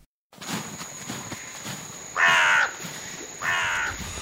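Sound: crow cawing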